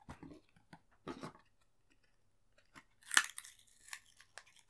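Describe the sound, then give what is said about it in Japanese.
Scissors snip, a few crisp, irregular cuts with soft rustling between them, the sharpest clip coming near the end. “よし、またハサミだね。あー、怖い。傷つけられないから怖い。”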